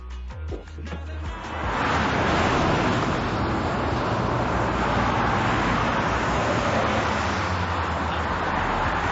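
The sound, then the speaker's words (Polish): Steady roar of road traffic, cars rushing past continuously after a brief quieter start, a broad hiss with low engine rumble that stays loud throughout. “To morze odpada, szum samochodów oczywiście zaliczam.”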